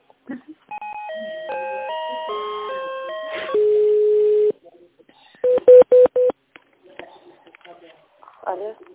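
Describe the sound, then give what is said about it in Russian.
Telephone call transfer tones as a call to an ecological centre is put through by the secretary: a stepped electronic melody of rising and falling notes, a steady held tone, then four quick, evenly spaced beeps, with a faint voice stirring at the end. “Да, конечно, вам соединяю.”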